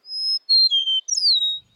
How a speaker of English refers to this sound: Today, rather than the roar of cannons, fields like Antietam are filled with the songs of blue grosbeaks. Eastern meadowlarks,